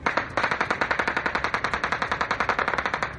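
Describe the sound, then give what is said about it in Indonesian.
Heavy weapons fire rattles off in a rapid, steady stream of shots for several seconds, loud, with no voices, heard at military bases in a West African country on a Sunday morning. “Tembakan senjata berat terdengar di beberapa pangkalan militer Minggu pagi, memicu kekhawatiran berlangsungnya upaya kudeta di negara Afrika Barat yang rentan akan perebutan kekuasaan oleh militer itu.”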